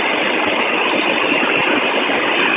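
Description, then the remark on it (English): A bus engine idles in a steady, unbroken drone, a loud dense rumbling hum that holds an even level throughout, with no voices or other distinct sounds on top. “So I just got on the bus”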